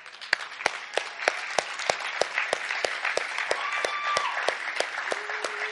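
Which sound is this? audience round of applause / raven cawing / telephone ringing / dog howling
audience round of applause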